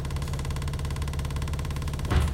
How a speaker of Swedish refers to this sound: Så här lät det på en bussresa när vi skulle åka hem efter att vara helt körda i öronen efter en hel dag när man bara ville ha lite lugn och ro hem